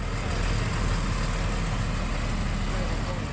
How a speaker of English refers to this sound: French armored vehicles exited the base for the last time.